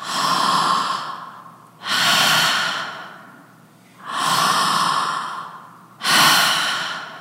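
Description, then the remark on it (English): A voice imitates heavy, rasping breathing: four long, loud breaths alternating in and out at a slow, steady rhythm, with no talking. “breathing pattern is totally different”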